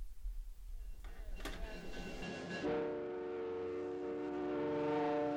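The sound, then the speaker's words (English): A passenger train running between Churchill and Winnipeg, Canada, rumbles and clatters along the rails, then a loud, sustained horn blast rings out and holds steady over the rolling noise until the end. “The train between Churchill and Winnipeg.”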